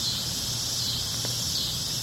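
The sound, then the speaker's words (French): Loud cicadas in Hale County drone in a steady, continuous high-pitched buzz that fills the whole stretch, with a faint low rumble underneath and no voices. “I didn't know the cicadas would be so loud.”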